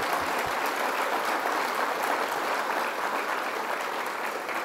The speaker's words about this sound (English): Our superstar, Lieutenant Governor Kathy Hochul, let's give her a round of applause.